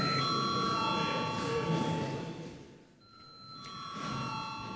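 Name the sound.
parliament chamber bell ringing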